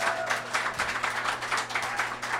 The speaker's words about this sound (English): Where are the two-nighters? Applaud if you've seen both of the shows here.